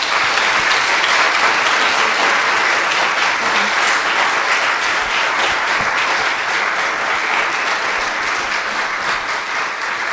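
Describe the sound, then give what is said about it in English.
A large audience at Village Baptist Church applauds steadily for about ten seconds to honor the men on Father's Day, a dense, loud patter of many hands clapping at an even level with no voices rising above it. “Village Baptist Church, please give these men a rousing round of applause.”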